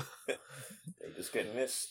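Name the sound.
cough and throat clearing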